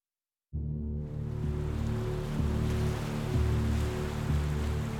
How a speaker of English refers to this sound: On the northeast coast of the United States, the temperate waters of the Atlantic Ocean lap against the shores of Salem, Massachusetts.